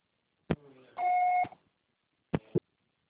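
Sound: answering machine beep tone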